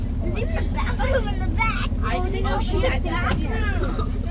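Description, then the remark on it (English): Children's voices of Radiant STEM Academy students chatter and overlap above a steady low engine rumble, the constant drone and hum of their bus moving on the way to Austin filling the background throughout. “Later, on the bus to Austin, the kids relax.”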